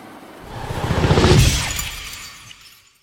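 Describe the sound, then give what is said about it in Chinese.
A plane slams into a mountain in a loud, violent crash, with shattering and breaking debris swelling to a peak and then trailing off over a few seconds. No voices. The crash is from a Doraemon story. “哆啦 A 梦等人在飞机撞山之前跳了下去。”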